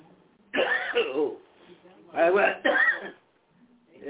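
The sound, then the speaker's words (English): A person coughs and sputters after choking on food while trying to eat and talk: one long, harsh coughing burst, a short pause, then two rough coughs in quick succession. Loud and raspy, with no talking. “I got choked up then.”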